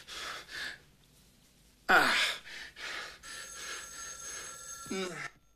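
A telephone in the main room rings with a steady, bright electronic trill lasting a couple of seconds near the end, after heavy breathing and a sharp, loud gasp.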